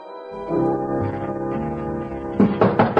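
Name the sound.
knocking on a door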